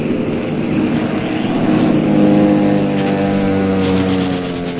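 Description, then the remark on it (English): Propeller warplane engines roar loudly and continuously, their droning tones rising and falling slightly in pitch as the planes, including German planes, dive and maneuver in a dogfight. No voices. “Machine guns chattered, planes roared and dived”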